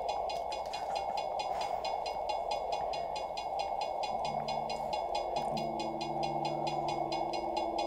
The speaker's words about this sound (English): Turn up my left headphone. More train sounds.